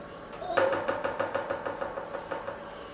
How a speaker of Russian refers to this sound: Не успел он договорить, как в дверь постучали.